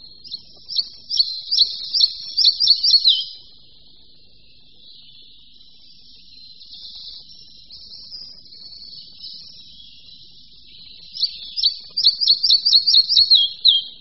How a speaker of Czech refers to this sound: Posloucháte hlas lejska malého, drobného nenápadného ptáčka. Na první pohled bychom si jej mohli splést s červenkou. Je také olivově hnědý, se světlejší spodinou těla, na hrdle a na prsou má cihlově červenou náprsenku.